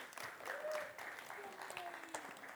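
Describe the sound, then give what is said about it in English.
A crowd claps steadily in a dense, continuous patter of many hands, with a few raised voices and whoops rising over the applause throughout, applauding the speaker's daughter as she is called up to read a Bible passage. “Give a round of applause to my daughter,”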